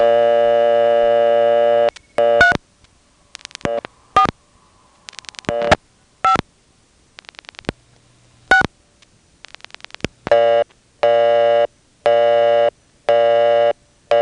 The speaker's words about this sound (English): That should give me a busy signal on the payphone.